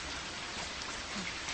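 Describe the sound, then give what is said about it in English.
Steady black rain patters down on hard surfaces in the northwest section of a city after a bomb blast, a dense, even hiss of countless drops with no voices, continuing unbroken throughout. “Mother, have you ever seen rain that's black like this?”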